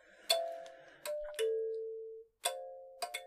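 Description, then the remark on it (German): A small bell-like instrument rings out in several bright strikes. Each tone hangs and slowly fades, one decaying for nearly a second before the final quicker strikes. No voices. “Ich würde vorschlagen, dreimal klingeln oder so.”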